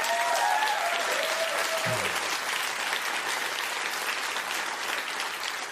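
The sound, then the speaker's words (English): An audience applauds a call for Americans to take in Afghan refugees, a dense, even wash of many hands clapping at constant loudness for about six seconds, with a brief whistle-like tone and a short low thump early on. “And I'm sure everyone who just clapped is thinking the same thing.”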